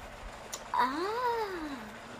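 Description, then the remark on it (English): A single drawn-out meow from a cat named Love, rising and then falling in pitch over about a second, heard clearly with no talking. “So I love Love. Well, so you love the cat named Love?”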